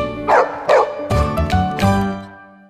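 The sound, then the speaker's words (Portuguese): A large dog barks about five times in quick succession, deep and loud, the last bark trailing off into a low ringing tail, in an advert for Animax Dog food for large, energetic dogs. No one speaks. “Ideal para aquele cão porte grande, cheio de energia.”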